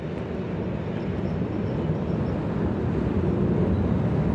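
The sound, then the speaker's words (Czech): A train arrives at a railway station with a steady, heavy, loud rumble, its low mechanical roar holding constant throughout with no voices. “Když přijel ten vlak, co jel správným směrem, svišť radostně zapískal.”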